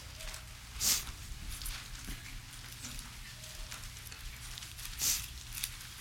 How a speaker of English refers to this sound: I want you to go someplace with me, Mark chapter 6. Turn your Bibles, we hear the pages flipping. Mark chapter 6.